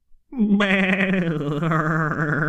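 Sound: sheep bleating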